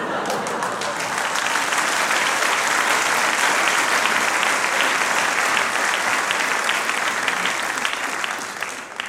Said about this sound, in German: Sie haben mir mit Ihrem Applaus den letzten Satz genommen.